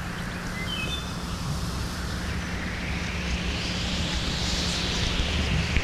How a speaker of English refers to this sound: The water rushes down the sloping street as we walk up it. The wall beside us is a wall of water that feeds the stream.